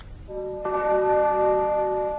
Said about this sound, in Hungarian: Mindjárt dél. A meserádióban is delet harangoznak. Bekapcsolom.